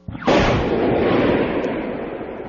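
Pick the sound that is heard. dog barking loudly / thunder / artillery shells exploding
artillery shells exploding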